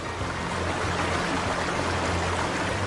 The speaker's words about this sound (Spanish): le gustaba ver a los niños bailar y nadar, pero él no podía sentirlo, así que preguntó a los niños cómo era el caer del agua sobre sus cuerpos.